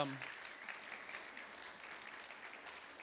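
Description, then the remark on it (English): An audience applauds the week's sponsors, a dense, continuous patter of many hands clapping at an even level throughout, with no voices standing out above it. “If you guys would, give them a round of applause, please.”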